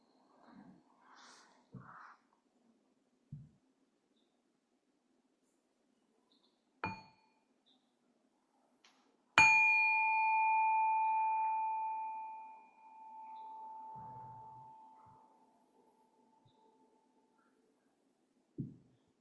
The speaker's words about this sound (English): And we'll let all that go and listen to a sound of the bell.